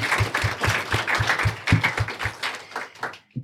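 An audience applauds in a dense, crackling wash of clapping, with a few heavier claps landing in a steady rhythm, before the applause thins out and fades at the end.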